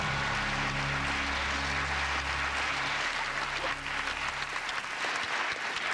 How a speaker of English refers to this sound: Responsible or not, you got that one right. The audience is applauding the truthful answer, I think, not the action.